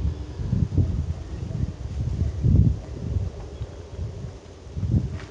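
Wind blows in low, rumbling gusts that swell and ease unevenly, with a soft rustle beneath; no voices are heard.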